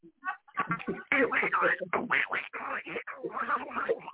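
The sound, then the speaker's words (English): Someone does a Donald Duck cartoon voice, rattling off raspy, quacking, garbled speech in a continuous stream for about four seconds. “Is that Donald? Man, hold on. We're not having Donald Duck on the show, okay?”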